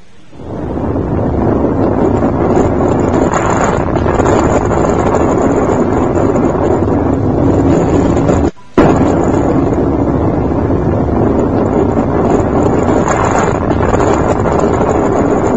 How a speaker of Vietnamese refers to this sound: Chưa hút hết, pháo địch rơi xuống mênh mông, pháo dập xuống như mưa, chỗ này 10 trái... chỗ kia chục quả.